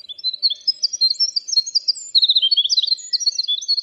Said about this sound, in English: Birdsong is in full voice now, and ounce for ounce, the winter wren is the smallest bird with the largest voice. As you listen to the song, made up of over 100 individual notes, keep in mind the singer weighs just 1/3 of an ounce.